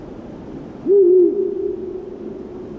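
One long, low owl hoot that starts loud, wavers slightly in pitch, then trails off more softly over about two seconds, with only a faint background hiss.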